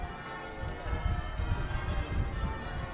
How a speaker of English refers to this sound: Afternoon Zoom, we're standing at London Bridge. It's about 5:30, and the bells that you can hear are coming from Southwark Cathedral, which is just a little bit west of where we're standing here.